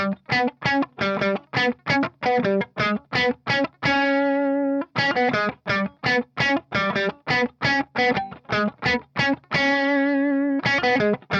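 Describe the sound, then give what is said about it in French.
A fuzz-distorted electric guitar slowly plays a song's keyboard riff that is doubled on guitar, with bursts of short, choppy notes broken by two long, buzzing held notes; loud and steady, with no talking. “Donc le son, il est assez fuzz hein, là-dessus.”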